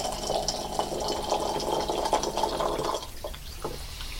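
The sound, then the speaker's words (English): Pu-erh tea, brought back from a 500-year-old tree in China, is poured steadily into tiny cups for about three seconds. A continuous trickling stream stops, followed by a few faint drips and clinks. “We sit down on polished tree stumps, and Master Wong pours us tiny cups of puer, a tea he just brought back from a 500-year-old tree in China.”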